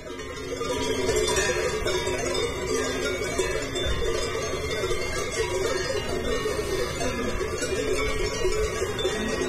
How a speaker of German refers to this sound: Die Glocken deuten es jetzt hier am Ende schon mal an. Wir wollen das Ende einläuten dieser Folge.